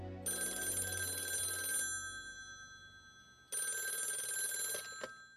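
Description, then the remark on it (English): A telephone rings twice at midnight with a bright, metallic bell trill, each ring lasting about a second and a half, separated by a pause, heard clearly with no voices. “2 weeks later, the phone rang at midnight.”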